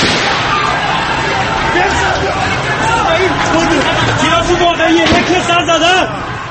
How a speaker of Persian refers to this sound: 30 خرداد ماه یک روز پس از سخنرانی آیت الله خامنه ای سکوت از اعتراض ها رخت بربست. نخست با صدای ممتد شلیک گلوله، فریاد مجروحین و مردم و بعد شعار مرگ بر دیکتاتور. این بار سفیر گلوله جنگی را هم میشد در خیابان‌های تهران شنید.